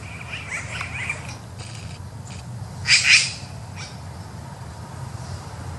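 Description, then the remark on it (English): A harsh, raspy crow-like call bursts out twice in quick succession mid-clip over a low steady hum, with a few faint high chirps earlier, played from a video. “I think crows. Is it crows that does the same? I think it's crows. I mean, these are pretty smart birds, actually.”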